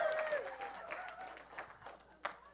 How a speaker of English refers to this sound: Everybody applauding gets gold stars.